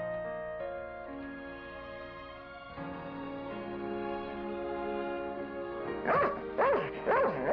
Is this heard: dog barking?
yes